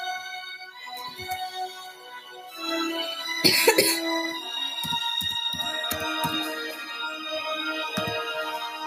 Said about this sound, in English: Sorry, I have a little bit of a cough.